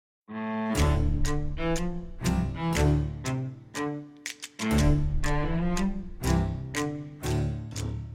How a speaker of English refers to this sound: It's a weird thing, but you get as you move the bone back to it, so you get like a click and another click for free, and it gives you that sort of trip. It gives you that sort of trip sort of feel.